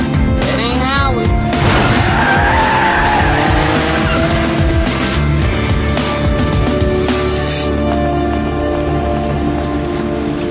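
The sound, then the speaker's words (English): Car tires skid and squeal loudly and continuously, with a rising, wavering screech early on over a heavy engine roar that stays intense for the full length. “Hey, that's my car! That's my car! Oh, no! It's not happening!”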